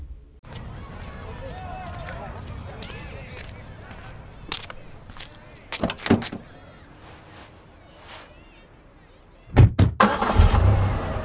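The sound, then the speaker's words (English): Steady low road rumble fills a car cabin in motion as a parent drives a child, seated in the back seat, home from practice, with a few sharp knocks and clicks partway through and a louder burst of bumping and rustling near the end; muffled voices may be present. “For context, this video features a child and their parent in the car on the way home from a practice.”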